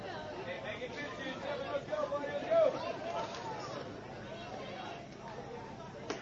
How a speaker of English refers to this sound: Getting some encouragement there from the crowd as he finds the strike zone on a nice fastball that catches the corner.